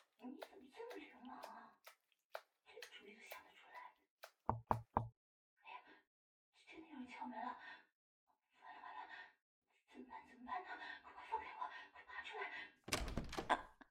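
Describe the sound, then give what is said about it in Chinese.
Three quick, firm knocks on a door land close together between hushed, whispery voices, followed later by a sudden loud rustling burst near the end. “哎呀，真的有人敲门了，完了完了，怎么办怎么办呢？”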